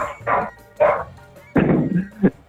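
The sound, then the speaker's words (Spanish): Dogs bark outside: two short, sharp barks spaced apart, then a longer, rougher burst of barking ending in a quick final yelp, fairly loud, with no one talking. “De nuevo ahí los perros.”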